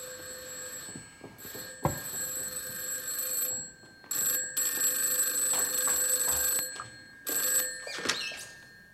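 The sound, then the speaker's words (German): An old telephone bell rings in long metallic bursts with short pauses between them, loud, with faint room noise and small knocks in the background. “Ach, jetzt habe ich doch auch noch vergessen, das Telefon umzustellen. Wer kann denn das bloß sein?”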